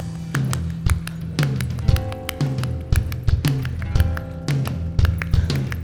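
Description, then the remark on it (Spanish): An audience claps along at a performer's request in a steady, repeating rhythm, sharp bright claps landing on the beat over music with a low bass line and sustained tones. No one speaks. “Pero para poder bailar mejor, yo necesito que todos me ayuden con las palmas, por favor.”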